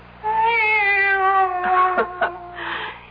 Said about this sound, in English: It's the cat. She's back.